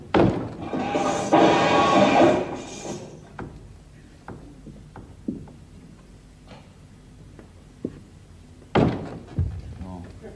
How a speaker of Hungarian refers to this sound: Ugor, csak aztán dobbants jó nagyot, magasra küszöm.